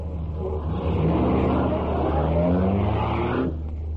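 A souped-up car engine revs and accelerates, its deep rumble rising steadily in pitch as it builds speed, loud and continuous for about three and a half seconds before cutting off abruptly.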